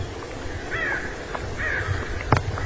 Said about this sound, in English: Lots of crows. There's a park of crows.